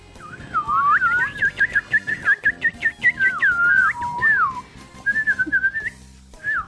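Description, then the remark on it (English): A person whistles a lively imitation of birds trilling, with rapid warbling swoops and chirps running continuously for several seconds, fairly loud, pausing briefly before a final short burst. “Los pájaros. Birds. Trinan.”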